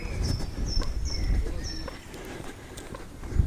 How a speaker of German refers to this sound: Dass man vielleicht ganz gut hören kann, dass meine Schuhe quietschen. Auch ein interessantes Podcaster-Problem, das so bisher noch nicht aufgetreten ist.